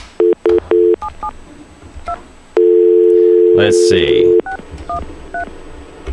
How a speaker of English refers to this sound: I'll just dial the echo test, and then I'll break in with a call waiting off the other device here.